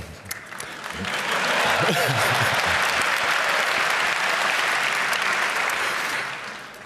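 An audience at a talk applauds the speaker, a dense, steady wash of many hands clapping that swells within the first second, holds loud for several seconds, then starts to taper at the end.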